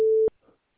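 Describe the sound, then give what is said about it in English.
A single loud, steady electronic beep at one pitch from a voicemail system, lasting about a quarter second and ending with a click, followed by faint rustling and then silence. “Please leave your message after the tone.”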